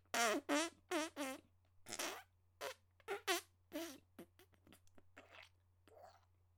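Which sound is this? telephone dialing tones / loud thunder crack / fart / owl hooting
fart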